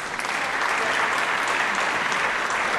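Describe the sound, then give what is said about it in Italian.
Sustained applause for Isabella Rossellini from an audience at a Rome Film Festival press conference, a dense, steady wash of many hands clapping at even loudness throughout, with no voices standing out. “Questa è anche l'occasione per farvi ascoltare quella che è stata forse ieri la presenza più soave e sicuramente più applaudita della conferenza stampa, cioè Isabella Rossellini.”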